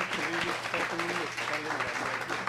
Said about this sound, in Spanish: Por favor, denles un aplauso, que a eso vinimos.